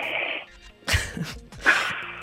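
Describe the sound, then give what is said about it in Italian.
A person imitates snoring for a snoring test, first with the mouth open, then through the nose only: a rough, breathy nasal rasp fades out, then two louder snorting bursts follow after short pauses, with no talking. “Senti, però tu devi aprire la bocca e devi produrre il rumore di chi russa.”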